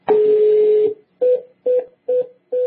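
Telephone line tones: one long steady beep, then four short, evenly spaced beeps at the same pitch, clear and fairly loud with no voices.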